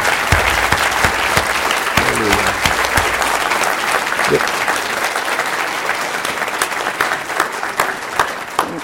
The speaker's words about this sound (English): Can we give him a clap and a praise for this? Amen.